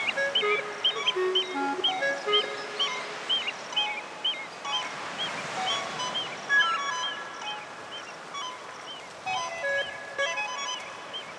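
A steady wash of ocean surf breaking on the shore, swelling and easing, with many bright, repeated bird calls chirping over it throughout.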